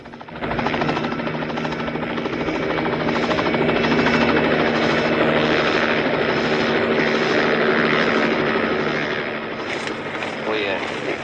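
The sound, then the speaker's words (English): A helicopter roars steadily, its rotor blades producing a rhythmic, pulsing chop over a dense engine whine that stays loud throughout before easing slightly near the end; the noise scares a bear out of a car. “The noise of the helicopter scares off the bear, who gets out and runs away.”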